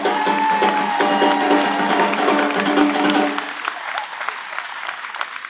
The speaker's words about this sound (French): Un grand merci et un tonnerre d'applaudissements pour la mairie du Taillon pour nous prêter cette salle du Paillon dans laquelle on ne peut pas faire tout ça.